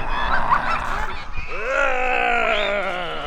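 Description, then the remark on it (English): Several costumed volunteer zombies at a zombie camp in a wooded park in Aurora, Colorado, let out drawn-out, nasal zombie groans, fairly loud, overlapping one another, with a rising, wavering moan carrying through the second half. “And those groans belong to volunteer zombies.”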